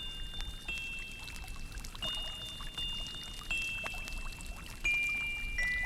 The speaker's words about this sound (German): Es war einmal im Märchenland, gleich hinter dem pumperdicken Bullerberg bei den drei alten Kastanienbäumen, ein Brunnen. Und er sang und plätscherte und sprühte seine regenbogenfarbenen Tropfen den Wolken entgegen.